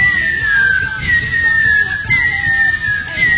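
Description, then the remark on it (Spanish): Someone whistles in imitation of catcalls: a run of sustained, slightly falling whistle tones repeating about once a second, loud over a low, busy background murmur. “Y entonces le aventaban esos chifladores, los que hacen...”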